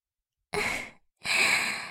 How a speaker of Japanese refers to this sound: はぁはぁ言ってるだけじゃわからないぞ。